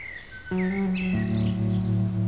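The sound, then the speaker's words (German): Birds chirp and twitter in the evening as the sun is almost down, with a steady, continuous droning trill of crickets underneath, the background filling in fully after the first half second. No one speaks. “Es ist so still hier auf einmal. Ich höre Grillen. Und Vögel.”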